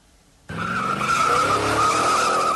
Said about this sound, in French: 7 km de parcouru en voiture dans la grande forêt de la localité de Yamba, mais nous sommes contraints de continuer les 4 km restants à pied.